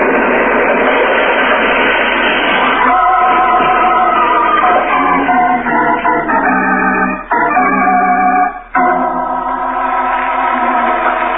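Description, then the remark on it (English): A loud, sustained roar of a train wreck as a train crossing a trestle is blown up with a detonator, heavy rumbling joined by shrieking, grinding metallic tones that swell and waver, with a couple of brief dropouts near the end. No voices. “driving eastward through the night, far from the scene of the train wreck”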